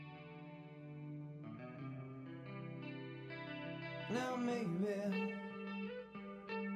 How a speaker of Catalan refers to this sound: Posa aquesta cançó. Posa, vinga, doncs. Posa-la.